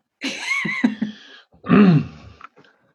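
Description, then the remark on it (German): A fairly loud throat clearing followed by a short pause and a second rougher, voiced cough, both heard alone with no talking. “Entschuldigung, vor lauter Corona muss ich schon husten.”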